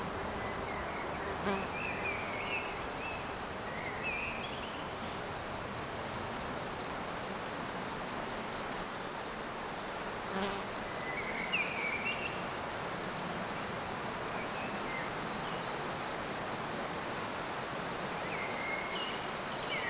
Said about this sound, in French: Non seulement les insectes, les oiseaux, la rivière, et cet insecte-là, n'est-il pas le premier à avoir inventé les sons électroniques ?